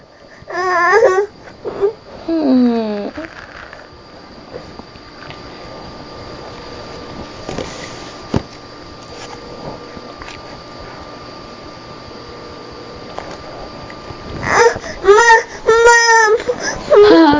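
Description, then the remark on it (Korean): A baby fusses and cries for its mother in short, whiny bursts at the start and again near the end, with a quiet steady hum filling the gap between. “저 아기가 좀 저기 찾아가지고 그런데 카메라 좀 꺼주세요.”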